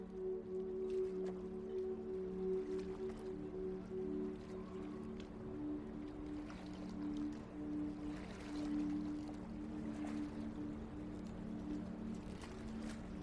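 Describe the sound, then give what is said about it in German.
A steady harbor ambience with a low engine-like hum and gentle lapping water, boats idling, with faint scattered clinks and splashes in the background; no one speaks. “Deine Reise startet an einem Hafen.”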